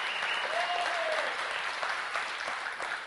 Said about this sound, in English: And we can shout that, and we need to applaud that. If we can applaud human singers and basketball players throwing things to the hoop, why can't we give Jesus a big shout out and a round of applause?